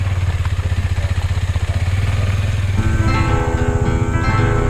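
A motorcycle engine thrums steadily up close, its low pulsing rumble shifting to a higher, more harmonic drone partway through as the bike keeps moving, with no one speaking.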